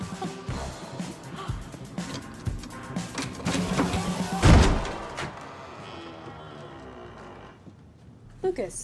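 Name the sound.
door being broken open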